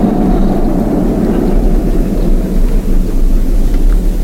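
bus driving away

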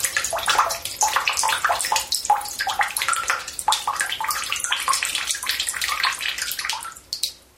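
water running

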